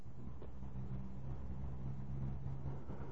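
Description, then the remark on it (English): A steady low engine drone while riding inside a moving bus, with a constant rumble and faint road noise throughout and no talking. “Jetzt mit dem Bus, ne?”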